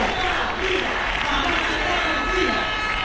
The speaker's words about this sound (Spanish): Miles de personas se han manifestado pacíficamente para reclamar al gobierno una mayor implicación para que no vuelva a suceder una tragedia humanitaria como la de la semana pasada en la ciudad autónoma.